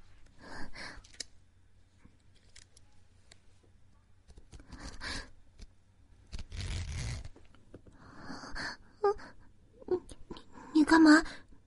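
A zipper is pulled in one drawn-out rasping stroke, set among soft breaths, sighs and quiet vocal sounds.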